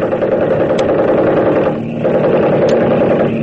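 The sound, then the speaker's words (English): A loud, steady engine drone fills the whole stretch, a dense rumbling hum that briefly dips around the middle before swelling back, as an airplane passes overhead attacking a Japanese boat. No one speaks. “The plane's going after the Japs.”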